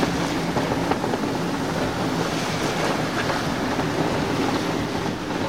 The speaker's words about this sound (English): See, we're getting a lot of roly waves. Up and down.